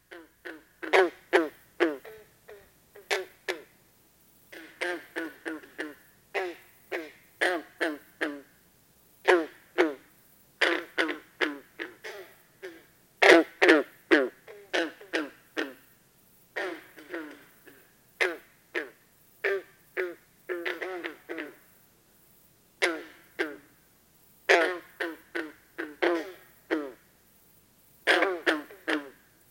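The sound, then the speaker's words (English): Green frogs calling over and over, each call a short, throaty, twanging note, sometimes in quick pairs or runs, repeating at an irregular pace with brief silences between and no talking; a familiar summertime frog call in the East. “In the East, a familiar summertime frog sound is the throaty loon loon loon of green frogs, a species that is easy to imitate.”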